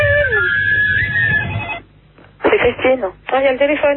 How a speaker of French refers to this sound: Non, il y a le téléphone.